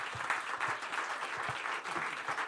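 An audience claps steadily, a dense patter of many hands that holds at an even, fairly loud level for a couple of seconds with no voices over it.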